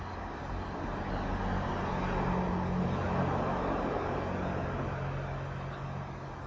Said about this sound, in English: Car? See the car?